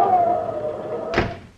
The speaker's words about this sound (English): And there's somebody coming up on the porch, Pa. Answer the door. Hello, door.